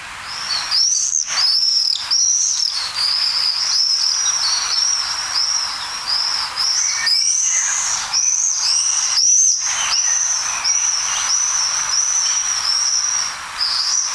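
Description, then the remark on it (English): Shrill, high-pitched screaming calls of common swifts ring out almost continuously, overlapping bursts from several swooping birds, with no talking. “And you can spot these birds by their unique call.”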